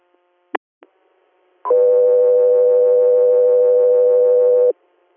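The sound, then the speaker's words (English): A couple of sharp radio clicks, then a single loud, steady electronic alert tone holding one pitch for about three seconds before cutting off cleanly, a dispatch pager tone on a radio channel before an air medical hospital transport call in Pennsylvania. “Passenger here, stand by for tones.”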